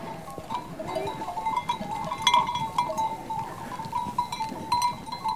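A flock of goats or sheep being driven by a herder and her dog back toward her cabin on summer mountain pastures, with overlapping bleats and a steady bed of shuffling, bell-like tinkling throughout. No clear barking stands out, and nobody speaks.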